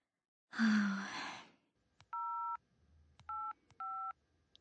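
A heavy sigh, then a phone number being dialed: three distinct push-button tone beeps, each with a soft click, spaced unevenly with no talking.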